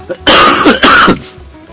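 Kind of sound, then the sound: human body sound, coughing and throat clearing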